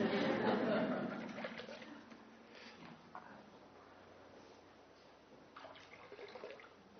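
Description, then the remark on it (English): Water representing the River Seine and the River Thames pours in a steady splashing stream, loudest in the first couple of seconds, then thins to a softer trickle with a few brief splashes near the end. “This water represents the River Seine and the River Thames from Paris and London”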